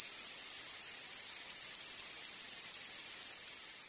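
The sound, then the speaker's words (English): Underwater fish sounds in Tampa Bay, recorded by a glider robot that sampled ocean sounds, form a steady, high-pitched, cricket-like buzzing chorus that holds at an even loudness throughout, with no pauses and no voices. “picked up the barely audible cricket-like noises using a robot called a glider that sampled ocean sounds in Tampa Bay”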